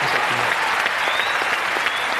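A crowd bursts into steady, dense applause, many hands clapping at once in a continuous loud wash of sound with no voices standing out.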